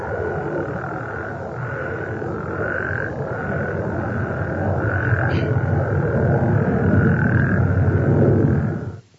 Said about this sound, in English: you can see that all of the energy is gone in the upper half of the spectrogram, and that there are breaks at 2.5, 4.5, and 6.5 seconds. And this is what the frogs sound like when they're being impacted by human noise.